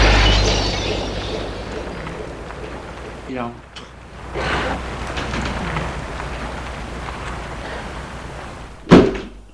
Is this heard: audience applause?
no